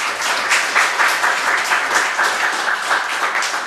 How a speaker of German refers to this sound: Erstmal einen herzlichen Applaus.